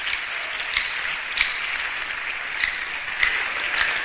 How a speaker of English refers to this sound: Please, with a round of clap of praise, can we just celebrate him?